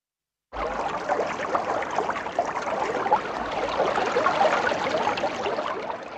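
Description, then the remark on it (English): Steady flowing water from a large perennial spring at the desert oasis town of Jericho, with a continuous bubbling, splashing texture that starts abruptly and keeps an even level throughout. No voices. “One of the oldest cities in history, centered around a large perennial spring that waters its surroundings and turns the area into a fertile oasis in the midst of a desert.”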